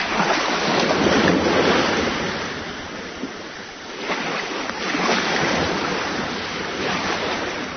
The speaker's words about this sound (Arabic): ولعلك تلحظ خط الشاطئ الذي تنحسر عنده أمواج المد، وهو مكان مناسب لتفحص الأشياء التي يلفظها البحر من أعشاب وأصداف، وأحيانا من المواد القمامية التي يلوث البشر بها مياهه.